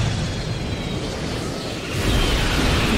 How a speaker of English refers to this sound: Okay, so he thinks he's dead. He's not. The plane goes crashing down.